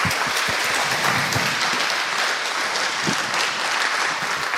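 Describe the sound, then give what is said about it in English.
Sustained audience applause for a speaker at the end of an on-stage talk about a software project, a dense, steady wash of many hands clapping at a constant loudness throughout, with no speech over it. “Big applause.”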